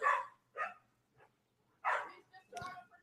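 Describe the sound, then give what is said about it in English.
A dog being walked past a house by a passerby barks frantically in a string of sharp, irregular bursts, about five barks over a few seconds, fairly loud with brief quiet gaps between them. “It's somebody walking by our house, and apparently their dog is going berserk.”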